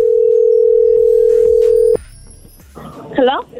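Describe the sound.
A telephone ringing as heard through the line as someone playing Santa Claus places a Christmas call, one steady two-second ring tone that cuts off abruptly, followed by quiet line noise and a brief voice answering.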